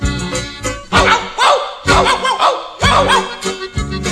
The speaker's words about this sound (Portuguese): Assim o cachorro latiu, cheguei a sentir um arrepio.